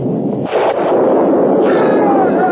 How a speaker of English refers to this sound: You shall hear thunder.